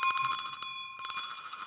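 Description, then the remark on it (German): A hand bell rings rapidly and continuously with bright, metallic clanging, briefly dropping out for a moment before resuming, loud with no talking. “Also eine Wissenschaft für sich, diese Glocke.”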